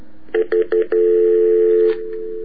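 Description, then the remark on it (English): A telephone number is dialed to call someone back after a disconnected call: four short keypad beeps in quick succession, followed by a longer steady tone lasting over a second, then a faint lingering hum. Clear, with no voices. “I don't know if he can call back or not. Okay, well, I'm gonna try, so hold on.”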